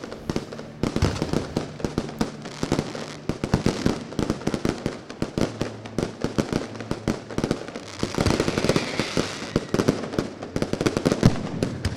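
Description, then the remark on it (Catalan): A fireworks display near the close of the 2022 Sitges Carnival crackles and bangs in a dense, continuous barrage, sharp explosive pops tumbling rapidly over one another, with a steady low rumble and hiss filling the gaps between blasts. “Va un increixent aquest foc i molts telèfons mòbils, moltíssims telèfons mòbils, enregistrant aquest moment gairebé final del Carnaval de Sitges 2022”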